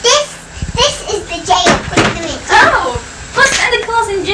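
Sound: door swinging shut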